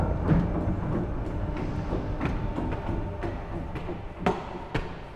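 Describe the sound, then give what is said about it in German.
An old, light-brown GDR-era paternoster lift in a sandstone building on Klosterstraße in Berlin runs with a steady low mechanical rumble, punctuated by irregular clunks and rattling knocks, two sharper thuds standing out near the end. “Ein Sandsteinbau mit rötlichen Marmorsäulen, Bleiglasfenstern und einem musealen hellbraunen DDR-Paternoster.”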